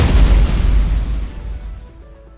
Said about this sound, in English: The block has been broken. Computer launched fire cannon from block 12.